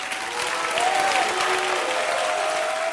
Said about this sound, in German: Man hörte da viel Applaus, Jubel, man hörte aber auch die Buhrufe.